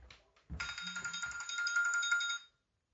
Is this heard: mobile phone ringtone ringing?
yes